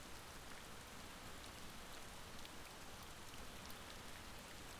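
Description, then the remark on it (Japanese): Steady rain falls without pause, a dense, even hiss of drops pattering on surfaces, fairly quiet and continuous throughout with no voices. “日雨が頬に降り注ぐ。”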